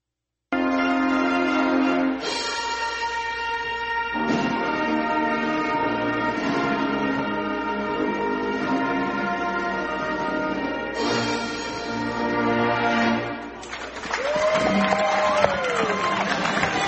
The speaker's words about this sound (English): And you just heard the conclusion of the national anthem played by the West Alabama Tiger Pep Band.